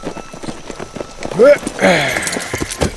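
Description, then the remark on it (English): Horses' hooves walk along a trail in a steady clip-clop rhythm as two men lead their horses over to where a stagecoach had been stopped, with a short voice-like call rising briefly over the hoofbeats midway through. “Leading their horses, Matt and Blocker walked over to where the stagecoach had been stopped.”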